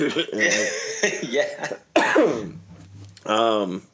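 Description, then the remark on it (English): A person coughs and clears their throat, with a few rough bursts and a raspy vocal strain over about four seconds, heard on its own. “Excuse me, my goodness, I'm coughing.”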